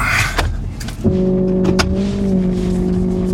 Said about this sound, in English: Kyle Barnes is showing me how quickly he can tow a car with his repo truck.